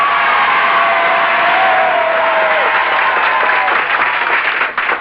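A large crowd beside the beach at Canet applauds in the morning in a steady, dense wash of clapping that stays loud throughout, with a few faint shouts rising above it and a brief dip near the end.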